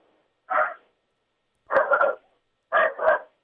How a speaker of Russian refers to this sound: Вот у вас собака, собака присоединяется.